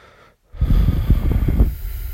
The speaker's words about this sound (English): Deep breathing, it's good as well.